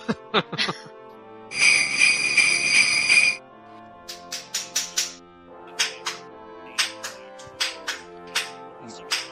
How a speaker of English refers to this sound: Is somebody shoeing a horse? Yeah. No, that's background noise on my end.